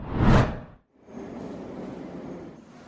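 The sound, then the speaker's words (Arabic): A metro train on rails, heard by passengers riding aboard: a loud whoosh rushes past at the start, a brief hush follows, then a steady, moderate rumble of the train running continues to the end. “مش كنا ركبنا حاجة تانية غير المترو ده”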